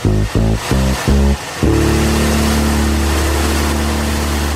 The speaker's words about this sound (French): Une petite cylindrée, c'était des moteurs... En termes de volume, qui était plus petit, mais qui pouvait révolutionner très haut. La sonorité est spectaculaire. Le son était cool.